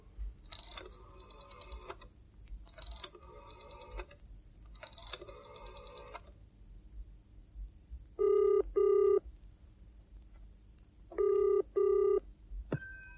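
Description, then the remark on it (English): Three rapid bursts of rotary dial clicks as a telephone in an apartment is dialed in the evening, then a steady hum and two loud double-burst ringing tones spaced a few seconds apart, ending with a sharp click as the line is picked up. “At last, since neither came, she rose, walked over to the telephone, and dialed.”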